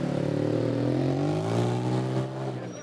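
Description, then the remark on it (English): A school bus engine hums loudly, its steady droning tone slowly shifting in pitch as the bus pulls back into the school parking lot and eases off, bringing a team back after their game was suspended due to rain, with no other sounds. “2.5 hours after the Gales departed for the West Bronx, the bus pulls back into the school parking lot.”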